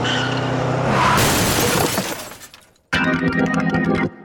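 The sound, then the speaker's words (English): A loud car crash as a car backing out straight into the street collides with another oncoming car: tires skidding, then a burst of shattering, breaking glass and metal debris; after a brief pause, another sustained mechanical noise follows, all without voices. “She's backing out straight into the street. There's another car coming.”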